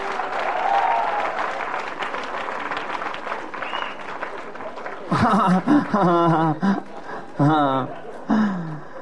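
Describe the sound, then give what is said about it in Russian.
A live audience claps steadily for several seconds, a dense crackle of many hands, as the programme schedule of 'Bydlo TV' is being introduced; the clapping fades as a loud voice starts talking over it. “И сейчас под ваши аплодисменты я познакомлю вас с программой передач на «Быдло ТВ».”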